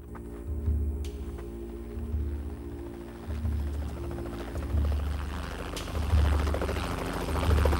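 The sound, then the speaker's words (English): A helicopter rises from behind a sheer-faced rock wall and holds in a hover, its heavy rotor thudding in a steady low rhythm and swelling gradually louder, with a constant engine hum underneath and no voices. “The helicopter rises from behind a sheer-faced wall of rock and spots her crumpled form in the dust.”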